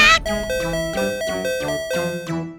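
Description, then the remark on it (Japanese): A doorbell-style 'ping-pong' chime sound effect plays a short run of bright, ringing tones in a steady sequence, each note overlapping the last as it fades, loud. “くらえ、サイキックピンポンを鳴らしたくなる。”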